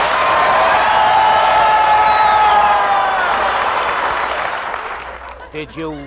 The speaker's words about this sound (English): Sure, sure. They always applaud when they hear my name.